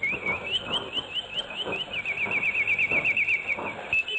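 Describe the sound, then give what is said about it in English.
A bulbul's song used as the signature call sign of Radio Baghdad, the broadcasting service of the Iraqi Republic, heard on a shortwave radio: a bright, high-pitched warble of quick rising and falling trills, repeating steadily for several seconds with faint low thumps underneath and no voices. “A bird chirping. The song of the bulbul.”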